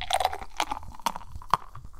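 Beer being poured into a glass, a rapid series of irregular glugs and bubbly pops with a faint fizzing crackle underneath, fairly quiet and with no talking.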